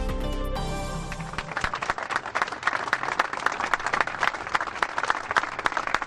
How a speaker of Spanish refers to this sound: Con este emotivo aplauso ha terminado el homenaje hoy a Ramón Díaz, el cocinero de la Comandancia de Marina de San Sebastián, que fue asesinado por ETA hace 23 años.